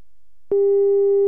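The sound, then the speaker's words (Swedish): A steady telephone call tone, heard while a call is being placed, starts abruptly after a half-second of silence and holds at a single pitch with faint harmonics, loud and clear with no voices. “Vi ringer upp Roxana Mendes igen.”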